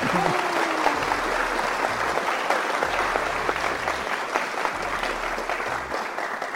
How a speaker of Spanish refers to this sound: ¿Pero por qué aplauden eso?